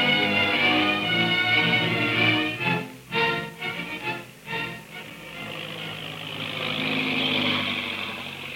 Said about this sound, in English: At that very moment, the big black seaplane is heard over the mysterious plantation house, circling for a landing. and gracefully skids to a stop on the beach.